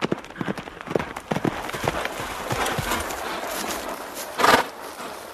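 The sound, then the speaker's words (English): A white horse ridden by a bearded man gallops through a forest, with quick, uneven hoofbeats and a constant rustle of brush around them. Near the end a louder crashing burst stands out. “One day, as Joanna sat under a tree with her baby in her arms, a bearded man on a white horse came crashing through the forest.”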